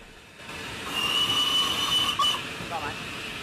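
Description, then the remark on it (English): A train's warning whistle, sounded by the driver on passing an SW (sound whistle) board placed in front of the platform at Erdington, sounds once, a steady high-pitched tone held for just over a second, over the constant rumble and hiss of the moving train. “I've just sounded the whistle because we've passed an SW board.”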